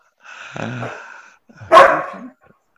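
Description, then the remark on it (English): A pet dog inside a house barks twice: a drawn-out, whiny first bark, then a louder, sharper second one, with nothing else heard around them. “I know we were not supposed to bring our inner children to the meetings, but this is my dog's romp time, and I haven't gotten him out of the house yet.”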